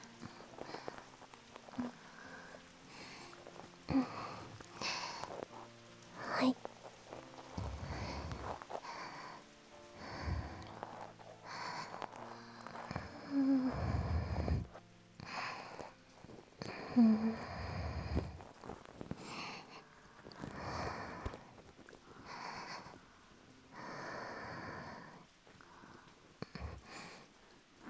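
Soft, breathy exhales very close to the microphone, repeating irregularly over nearly half a minute, with occasional snort-like puffs and faint rustling in between.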